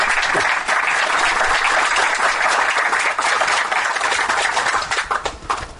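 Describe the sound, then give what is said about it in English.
An audience applauds for nurses, a dense wash of many hands clapping at an even, sustained loudness that begins to thin and fade in the final second. “If you want to clap for all those nurses, you may.”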